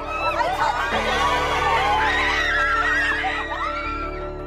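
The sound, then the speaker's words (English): A crowd of Johnny Depp's fans boos and jeers Amber Heard as she leaves the courtroom in Virginia, many voices overlapping in a loud, continuous swell of wavering, drawn-out cries that rise and fall in pitch for several seconds. “Amber is facing the wrath of Depp's fans, who booed her as she left the courtroom in Virginia.”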